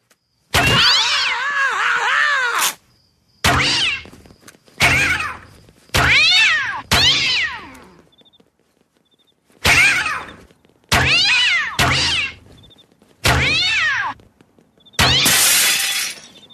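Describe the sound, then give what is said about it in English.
Loud cat yowls and meows from cats being launched by a cat launcher come in about nine sharp bursts separated by brief silences, some mixed with crashing, shattering noise. No one speaks. “Pizza delivery man, prepare to meet your maker at the hands of my cat launcher.”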